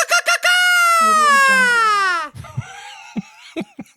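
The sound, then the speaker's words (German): A Mexican mariachi shout: a few quick yelps, then one long, loud, high-pitched cry that slowly falls in pitch before breaking off into scattered shorter vocal sounds. “Das war der mexikanische Mariachi-Schrei.”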